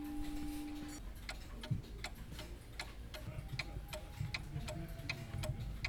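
An antique clock ticks steadily, sharp crisp clicks repeating a few times per second, with a faint sustained tone in the background for the first second. No one speaks.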